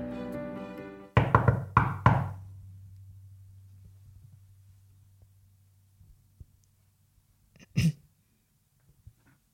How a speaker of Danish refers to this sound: Ej, du må gerne lige banke på for det. Han sidder lige og arbejder.